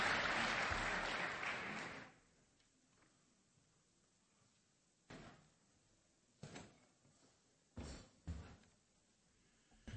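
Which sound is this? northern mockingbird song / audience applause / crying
audience applause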